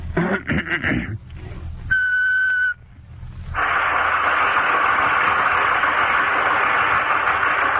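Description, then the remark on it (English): A whistled imitation of the call of the Polynesian pom-pom bird: some short voiced sounds, then one steady, clear high whistle note lasting under a second, followed by a long, loud hissing rush. “Next, I'd like to do the Polynesian pom-pom bird.”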